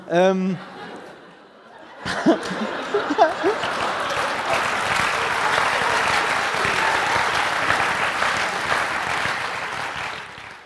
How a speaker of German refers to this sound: Warum klatscht hier eigentlich, ihr Arschlöcher?